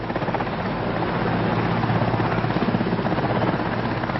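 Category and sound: vehicle, helicopter flying overhead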